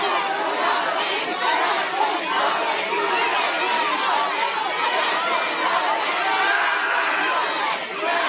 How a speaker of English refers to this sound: You can hear them screaming out pain as these cops just keep shoving these clubs into their belly.